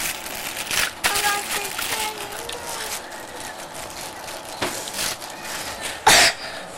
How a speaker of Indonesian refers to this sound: Batuk ya